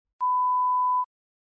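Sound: electronic beep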